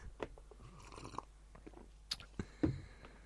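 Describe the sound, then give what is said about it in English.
Quiet sipping of hot ginger tea: a few soft slurps and wet mouth clicks spread over a few seconds, with a swallow near the end and no talking. “Let me just have a sip of ginger tea.”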